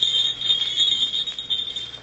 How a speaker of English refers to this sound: Bells, jester's bells. For 40 years I've lived with the sound of those bells. Fool's bells, jester's bells.